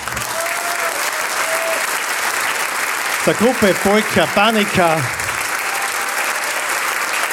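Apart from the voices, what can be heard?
audience clapping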